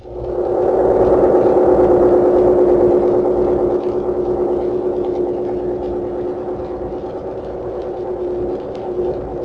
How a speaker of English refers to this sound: Here's a submarine at close range, charging its batteries.